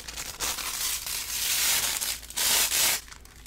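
Paper being torn and pulled apart to separate it, a continuous crinkly ripping with two louder bursts near the end, no voices.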